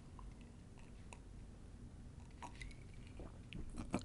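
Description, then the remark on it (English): Quiet mouth sounds of someone sipping a drink, with soft wet slurps and small clicks scattered over a few seconds against a low background hiss. No one speaks. “Hey, while I'm taking this sip, why don't you say I and then spell cup?”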